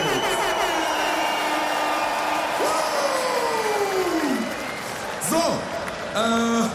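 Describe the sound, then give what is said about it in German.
A large concert crowd applauds and cheers loudly and steadily for the DJ, with whoops and sustained shouts rising and falling above the dense clapping throughout. “Und ebenso einen fetten Applaus bitte für mein DJ, ….”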